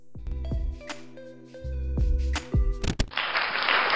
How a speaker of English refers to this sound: Yes, I still give him applause every time I bring up his name.